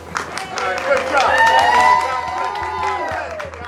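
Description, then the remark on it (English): A crowd cheers for lead prosecutor Creighton Waters in front of a courthouse after Alec Murdaugh's murder conviction, a loud, steady roar of overlapping shouts and whoops with scattered claps, swelling to a peak midway and then holding strong until the end. “There were cheers for lead prosecutor Creighton Waters, and he heaped praise on the jurors.”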